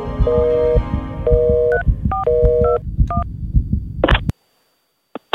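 A home landline being dialed by a girl's sister to call their father: a quick run of dual-tone keypad beeps, ten or so in an uneven rhythm, over a steady low hum, followed by a few short electronic chirps on the line.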